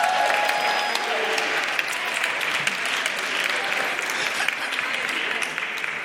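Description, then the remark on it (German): Steady, dense applause from an audience for children fills the whole stretch, a sustained wash of many hands clapping at fairly even loudness with no voices standing out. “Komm, gib den Kindern mal einen Applaus, dann kommen alle Kinder nach vorne.”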